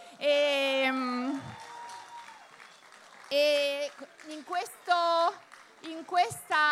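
A crowd applauds people on stage carrying a banner given by women from Bangladesh, the clapping a dense wash of noise under loud, sustained cheers and whoops that rise and fall in several bursts.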